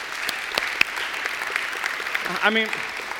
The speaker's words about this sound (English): I mean, 150 people, that deserves a hand clap, I think so, right? Thank you.